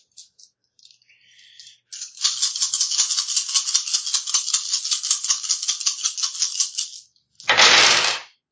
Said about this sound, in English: That sounded like way too many dice. That is a bunch of dice.